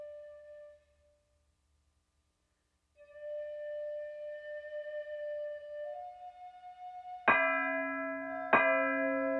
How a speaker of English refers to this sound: The bell echoes through the zendo and ebbs away.